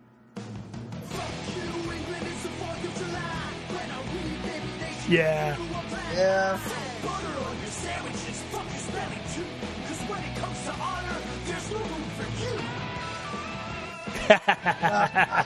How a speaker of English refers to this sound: You know, it starts off with the, you know, power ballad sounds. And wait, there's punk rock. There's punk rock.